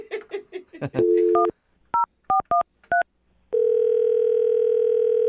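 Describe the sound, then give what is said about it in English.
After a brief burst of voice at the start, a steady telephone dial tone hums, then five crisp keypad beeps sound in an uneven rhythm as someone dials to get a man back on the phone, before a loud, continuous tone takes over. “Well, I'm gonna see if I can get him back on the phone then”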